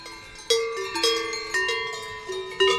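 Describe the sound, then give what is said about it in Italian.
An old cattle bell is rung with several irregular strikes, each leaving a full, resonant metallic tone that lingers and overlaps the next. No one speaks over it. “Invece questa ton come le campane della chiesa.”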